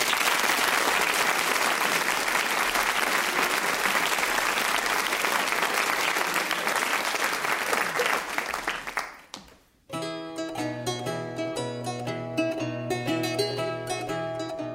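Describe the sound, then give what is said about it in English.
An audience claps steadily and loudly for about nine seconds for a lutenist at an evening of Luton songs, the applause fading out before music with a steady rhythmic beat starts up. “By applauding, could you please applaud”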